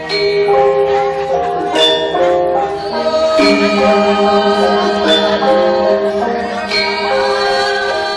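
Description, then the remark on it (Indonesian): A gong luang gamelan ensemble, used for sacred ceremonies, plays steadily, layered metallic tones ringing and overlapping as bronze keys strike in a brisk, regular rhythm over a low sustained hum, with no voices. “gong luang digunakan untuk acara sakral seperti upacara dewayatnya, sriyatnya, pitrayatnya, manusiayatnya, butayatnya.”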